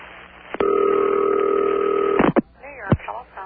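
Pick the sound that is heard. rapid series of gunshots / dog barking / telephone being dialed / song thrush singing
telephone being dialed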